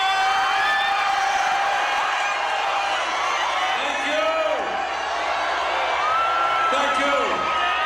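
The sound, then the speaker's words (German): A large crowd at the Coachella Festival in California cheers and applauds Senator Bernie Sanders in a steady, loud roar, with high whistles and whoops rising above the clapping and shouting voices throughout. “Besonders großen Applaus gab es in diesem Jahr für ihn hier.”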